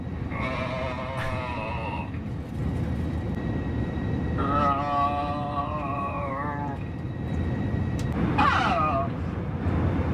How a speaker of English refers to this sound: Someone on this flight seems to have broken into the intercom system and continues to make a sound that is somewhere between an orgasm and vomiting.